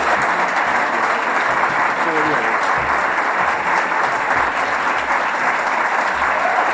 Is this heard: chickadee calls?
no